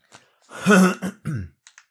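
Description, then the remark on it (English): A loud burst of coughing and throat clearing from a person who swallowed wrong: a quick rasp, a heavy harsh cough, then two more rough hacks and a couple of faint clicks as it settles. “Because, oh my God, I swallowed like a porcupine or something. Excuse me.”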